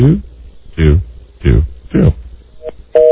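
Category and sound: signal or alarm, telephone busy signal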